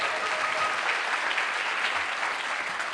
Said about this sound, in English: How about a little applause? Their first buck, ladies and gentlemen.